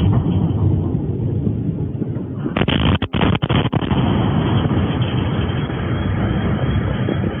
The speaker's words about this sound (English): Like, for example, yesterday, I've heard a plane drop a bomb or something. It wasn't that close.